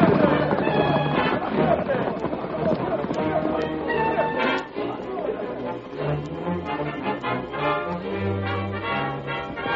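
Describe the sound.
Horses gallop with a steady, rapid clip-clop of hooves while high, wavering neighs rise above it, all layered over a dense, busy wash of sound with voices mixed in.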